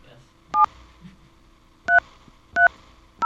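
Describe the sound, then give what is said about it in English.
Four short touch-tone keypad beeps sound at an uneven pace as a phone number is dialed, each a clear dual-pitch electronic tone, over a quiet background with a faint low hum. “People can't read these tones, can they?”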